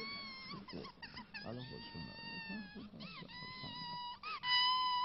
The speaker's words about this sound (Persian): چیه؟ حالا چرا گریه می‌کنی؟ مادرت که اومد پسره.